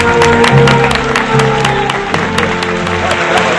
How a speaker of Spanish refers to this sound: Un aplauso para ellos, ¿eh?